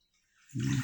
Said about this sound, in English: I'm gonna bathe you as gently as possible, okay? The water is kinda hot, so... Just relax.